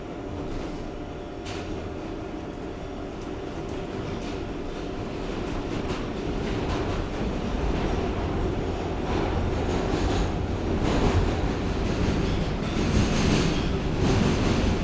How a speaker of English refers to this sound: This is a Parkchester-bound 6 local train. The next stop is Brook Avenue. Stand clear of the closing doors, please.